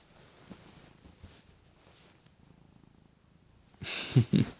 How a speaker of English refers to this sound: I wonder if they can hear the purring.